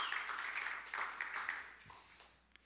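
A round of applause from a crowd for a helper coming up to join the speaker at the front, a dense, steady patter of many hands clapping at once that slowly thins and fades out near the end, with no one speaking.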